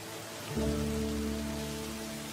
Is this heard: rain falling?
yes